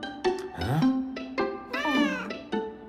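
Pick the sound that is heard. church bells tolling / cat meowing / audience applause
cat meowing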